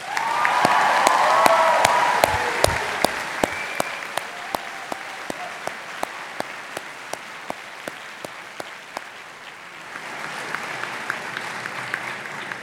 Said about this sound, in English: Before we conclude these proceedings, let us have one more round of applause, this time for the family and friends who are present here today.